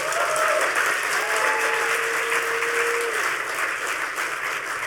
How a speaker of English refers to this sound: So just for that, give him a round of applause.